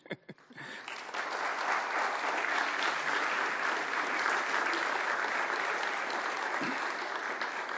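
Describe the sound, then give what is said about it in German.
A church audience bursts into sustained applause welcoming a new member, a dense wash of clapping that swells within the first second and holds steady and loud for several seconds. “Applaus ist super und tut gut, ne?”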